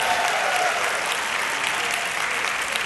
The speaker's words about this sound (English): They don't know exactly why people clap when you tell them.